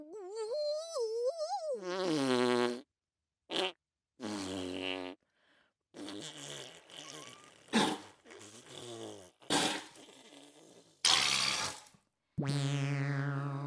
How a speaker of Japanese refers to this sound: それでは大きな音でおならをブブッとうんこもブリッとぶっ放させていただきます。